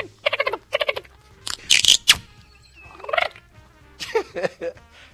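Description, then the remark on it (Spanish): A person imitates the calls of a pretend dolphin called Flipper, said to come out of a pocket, with loud, warbling chatters and squeaky trills, delivered in several short bursts separated by brief pauses, with no ordinary speech. “Por ejemplo, ahí trajo el delfín.”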